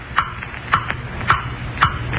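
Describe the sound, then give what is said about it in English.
A clock ticks steadily, four crisp, slightly ringing ticks about half a second apart, each with a fainter echoing click after it, against a quiet low hum. “Ticking, stop ticking. I hear you, blasted clock.”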